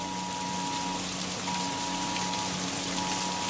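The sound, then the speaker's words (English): Heavy rain pours down at night in a steady, dense hiss of drops drumming on surfaces, on a street under about 2.5 feet of floodwater, with a faint constant hum running underneath and no voices. “It's really coming down, man.”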